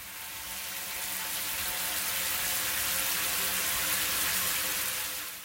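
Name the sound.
shower water running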